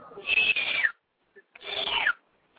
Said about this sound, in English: What's that noise? What? What's that noise? Huh? I was whistling at someone who I thought was my brother. But it just, whistling at people.